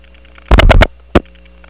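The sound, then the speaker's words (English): Faint, steady high-pitched tones hum and warble over a quiet, idle interoffice telephone wire trunk. They are caused by adjacent trunks in the group oscillating while idle. A loud burst of crackly noise breaks in, then a single shorter burst. “This trunk, like most interoffice wire trunks, does have some high-pitched tones, again caused by adjacent trunks in the group oscillating while idle.”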